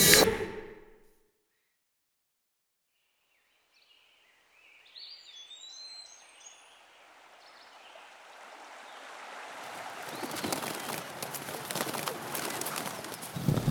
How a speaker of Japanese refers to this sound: こっちのがいいでしょ。森の匂いが落ち着くし、鳥さんたちも歌ってるし。